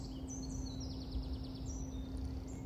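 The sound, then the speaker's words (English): Bird song with high, bright chirps and quick trilled notes in a steady flowing phrase, over a low hum and a quiet background. “Just as you can hear this bird song and the silence behind it at the same time, silence and sound.”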